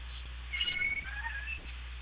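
A cat lets out one drawn-out, high-pitched meow lasting about a second, fairly soft, over a steady low background hum with no one talking.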